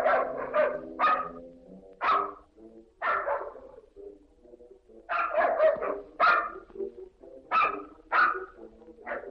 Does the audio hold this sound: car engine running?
no